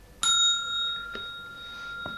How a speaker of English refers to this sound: When you hear the bell, turn the page.